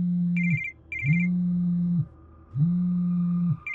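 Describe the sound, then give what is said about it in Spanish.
A telephone rings at around 3 in the afternoon with an electronic tone: a steady low buzz repeats in long bursts, and a high warbling trill sounds over it. There is no talking, and the ring is clear and fairly loud. “Mi teléfono sonó a eso de las 3 de la tarde.”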